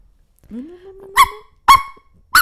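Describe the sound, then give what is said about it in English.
A voice imitates a squeaky dog: a rising, whiny squeal followed by three sharp, nasal yelps in quick succession, loud with no other talking. “That was like a squeaky dog.”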